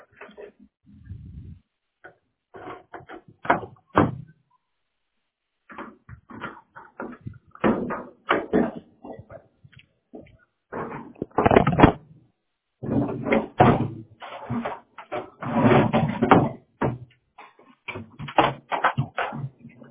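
Latches clack and the doors of storage boxes on a truck bang open as they are unlocked, a quick run of clattering metal clunks and rattles coming in bursts with brief pauses between them.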